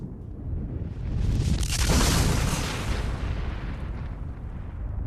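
A firecracker explosion: a deep, rumbling blast swells up loudly within the first couple of seconds, then rolls on and slowly fades, with a heavy low roar and crackling debris. No voices.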